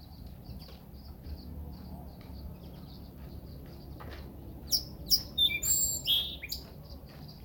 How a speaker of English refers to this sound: Did you hear that song, Sparrow? Let's see if it'll sing for us again.